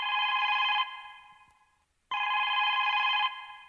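A telephone rings twice during the Shaparak call-in program, with steady electronic trills, each burst lasting under a second before a short pause. The ringing is clear, with no one talking.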